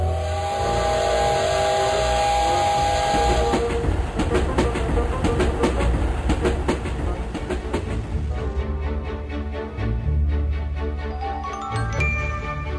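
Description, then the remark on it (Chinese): A train rolls along the rails, its wheels beating out a quick, steady clickety-clack over a deep continuous rumble. The sound is loud, with no voices. “说完，佛克和帕斯帕勒土就搭上了火车。”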